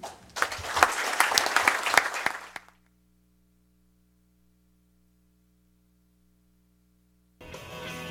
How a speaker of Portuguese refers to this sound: E provavelmente para finalizar, eu peço que todo mundo fique de pé agora para a gente realmente bater uma salva de palmas